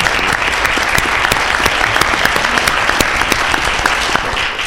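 An audience breaks into steady applause, many hands clapping in a dense, continuous patter that stays loud and even for a few seconds, with no voices on top.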